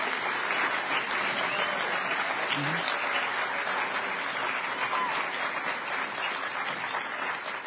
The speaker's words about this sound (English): So this is the 9th Hackers on Planet Earth conference. And huge round of applause. If you had a great time, give yourselves a round of applause.